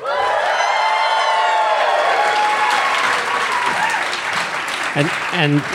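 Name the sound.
audience cheering and applauding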